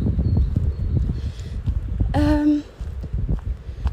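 Heavy rain, suddenly starting out of nowhere, pours down hard in a steady, dense rumble and patter throughout, broken about halfway by a brief, high-pitched tonal squeal lasting around half a second.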